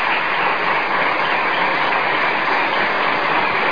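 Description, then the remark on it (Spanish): An audience applauds actress Silvia Montanari in a dense, continuous wash of clapping that holds steady and fairly loud for the whole few seconds, with no voices over it. “Aplaudamos a Silvia Montanari.”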